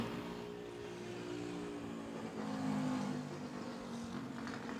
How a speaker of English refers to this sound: Is he on a scooter? What the fuck is he on? I think he is. I think that's a scooter, dude.